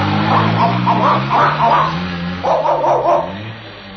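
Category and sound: vehicle, motorcycle engine revving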